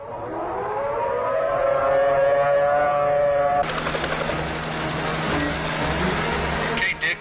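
A civil defense tornado warning siren, activated as a tornado on the ground near Brandenburg heads toward Louisville, wails loud and steady for several seconds, then cuts abruptly into harsh, noisy static-like crackle with muffled sounds underneath.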